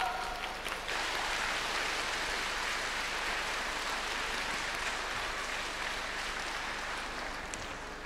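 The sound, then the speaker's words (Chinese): A large audience claps steadily for about eight seconds, a dense, even wash of applause that holds its loudness throughout and eases slightly at the end, with no talking over it, welcoming Director Lu Junhong to read totems. “下面让我们用最热烈的掌声恭请尊敬的卢军宏台长为我们慈悲看图腾。”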